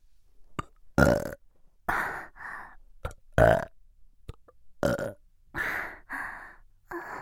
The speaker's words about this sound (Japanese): あ、ごめんなさい、なんだかゲップばっかりでちょっと失礼だったかもしれません。え、ゲップ好きなんですか。じゃあよかった。だったらゲップ好きなあなたにお耳元でたくさんゲップしてあげますね。